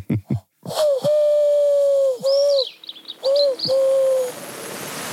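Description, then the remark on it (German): A person imitates a bird call, starting with a few quick clicks, then three long, steady whistled notes broken by a brief high, warbling trill. Fairly loud, no talking. “Ich versuche mich auch noch mal in der Imitation hier.”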